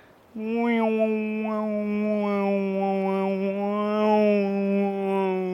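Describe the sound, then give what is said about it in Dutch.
A voice hums a steady, drawn-out tone imitating a single wind-blown string of a box instrument that has four or five strings, holding one low pitch for about five seconds while small rising-and-falling overtone swells recur roughly every second. “En ik kan natuurlijk maar 1 snaar nadoen, maar op elke kist zitten dus 4 of 5 snaren.”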